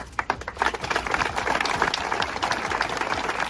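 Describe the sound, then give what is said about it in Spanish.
Neighbours in Olla, Pontevedra, Spain, applaud outdoors, breaking a minute's silence of mourning for a woman murdered by her ex-partner; dense overlapping claps sustained steadily throughout at moderate volume, with no distinct voices standing out. “Un minuto de silencio roto por los aplausos de los vecinos.”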